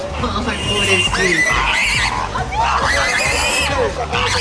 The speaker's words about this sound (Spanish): Al cerdo Raúl Castro lo han agarrado de una pata y bueno, le están generando mucho dolor e incomodidad y grita, pues obviamente. Y ahora ya parece que se lo están llevando a los dos cerdos en un auto con rumbo a la olla.